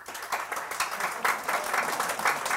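A crowd applauds with dense, steady clapping, a continuous crackling wash of many hands at a fairly even loudness, with no voices standing out above it.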